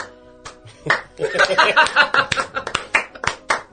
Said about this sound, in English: I'm going to clap the round of applause like the Stern Show. Yeah. Get that clapping going like the Stern Show.